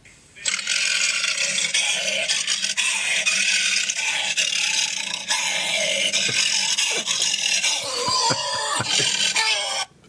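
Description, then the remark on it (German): A trained voice actor roars like a lion into a tin rubbish bin, producing a loud, harsh, rasping growl with a metallic ring. It runs unbroken for about nine seconds, with wavering pitch glides near the end. “Und ich habe hier von YouTube mal eine kleine Hörprobe mitgebracht, wie sich das anhört, wenn ein ausgebildeter Synchronsprecher in einen Blechmülleimer reinschreit.”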